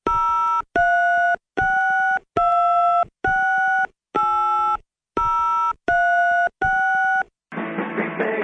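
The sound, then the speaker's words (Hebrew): A telephone line sounds a series of eight steady electronic tones in an even on-off rhythm, like a busy signal, ending with a short burst of hissy, crackling noise, as a radio station redials the office of Bnei Brak mayor Rabbi Hanoch Zeibert during a live broadcast. No one speaks. “אז הנה רואי מחייג אליו שוב, בבקשה”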